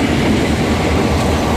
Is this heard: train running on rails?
yes